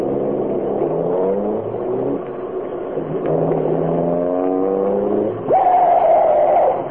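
A car coming fast, running close to the curb, its engine roaring and revving at high speed, pitch rising and falling through gear changes, then a loud, sustained tire screech cuts in near the end. No voices are heard.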